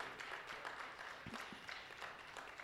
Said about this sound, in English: And before I move on, I just have to thank God for our young people. And please just give them a quick round of applause.